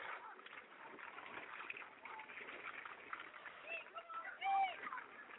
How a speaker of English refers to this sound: And I'll tell you, folks, when I say it's pouring, it is pouring. It's raining cats and dogs out here. I think there's a little bit of sleet and snow.